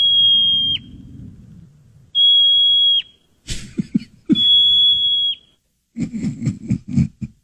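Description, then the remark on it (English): A marmot's call, played as a wild animal noise: four loud, shrill whistles, each holding one high pitch before dipping sharply at the end, alternating with bursts of rough, rapid chattering. No one speaks. “Groundhog. Okay, groundhog.”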